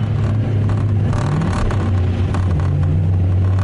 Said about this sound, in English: Does your car rattle like an old washing machine? Preventing annoying interior noises is surprisingly tough